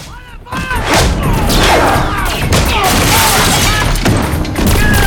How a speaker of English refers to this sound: Soldiers fire their guns in the dark.